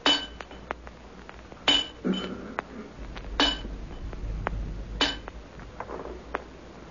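Sharp, ringing taps of a tool chipping at something hard, struck at an uneven pace with short pauses, fairly loud, with no voices; a young man is chipping away at the object.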